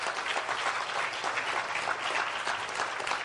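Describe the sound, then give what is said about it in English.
Steady applause from a sizable audience, dense overlapping hand claps at an even level without pause, with no voices standing out above the clapping. “You can give a hand clap for that.”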